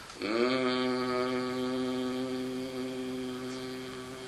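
Voices hum together with closed mouths in the humming phase of a Nada Brahma meditation, sliding briefly upward at the start, then holding one steady, buzzing mid-pitched tone at moderate loudness for about four seconds, with no speech.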